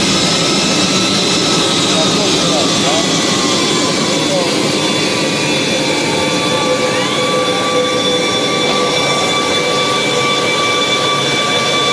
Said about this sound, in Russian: Но оказалось, что лидер КНДР решил провожать Путина вплоть до самого взлета. И вот российский борт номер один уже разгоняется, а президент из иллюминатора...